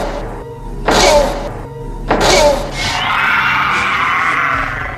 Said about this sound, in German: Mit einem furchtbaren Schrei zerspringt es in tausend Stücke.